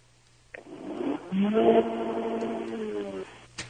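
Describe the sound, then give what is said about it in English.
A car engine revs up, its droning pitch climbing quickly and then holding steady for a couple of seconds before cutting off, with a thin, muffled, phone-line quality. “We want you to rev your engine, give it a couple of good bursts, and then Lightning will identify your auto.”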